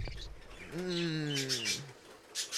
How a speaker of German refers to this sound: Ist eine Nachtbussardschwalbe. Komisch. Nehmen wir mal eine Nachtbussardschwalbe.